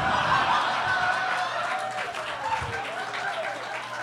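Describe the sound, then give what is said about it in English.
A small group applauds steadily for several seconds, the clapping dense, while a few voices chatter and chuckle underneath. “Don't applaud him.”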